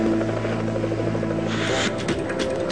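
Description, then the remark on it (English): A rescue helicopter hovers loud over water, lowered so far that its skid is under the water, its rotor thrumming in a steady low drone, with a rushing, hissing wash of churned water and spray building up partway through. No voices. “Pilot Don Usher lowers the helicopter so far that the skid is actually under the water.”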